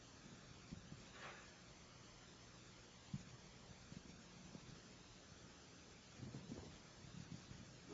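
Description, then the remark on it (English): Steady rain hisses throughout while deep rolls of thunder rumble low, with a sharper crack partway through and a few more swells near the end; no one speaks. “I think there's a storm coming.”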